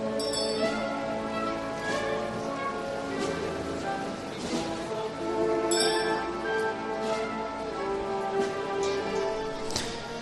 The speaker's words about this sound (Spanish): Sigue completando ese giro cuando lo que ya se empieza a escuchar por campanas es ese sonido inconfundible del muñidor de la mortaja, que va a ser la última cofradía la que ponga el broche final al Viernes Santo en carrera oficial